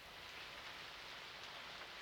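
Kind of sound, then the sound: nature, light rain pattering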